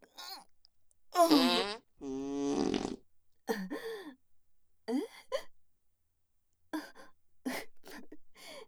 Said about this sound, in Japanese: すみません、興奮して絵が漏れました。直撃でしたか。ごめんなさい。おなら臭かったですよね。